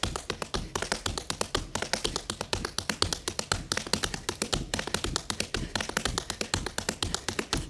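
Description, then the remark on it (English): Quick, bright tap shoe clicks rattle in dense, rhythmic clusters, toe and heel sounds, shuffles and three-sound scuffles flowing continuously with no voices, each strike sharp and crisp against the floor. “I also learned to add in shuffles and three-sounded scuffles.”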